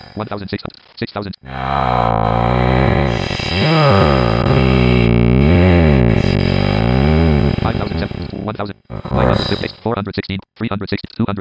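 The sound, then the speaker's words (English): A voice heavily processed through a vocoder at a high setting gives a robotic, smeared, ringing, almost reverb-like quality, sustained tones gliding up and down for several seconds, ending in choppy fragments of processed speech. “And higher it goes, the stranger things get, and almost, but not quite, a reverb effect.”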